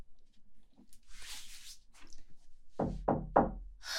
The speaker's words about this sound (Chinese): 在敲门